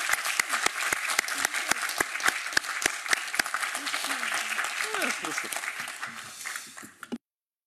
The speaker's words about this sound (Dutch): Applaus, jongens, zou ik zeggen.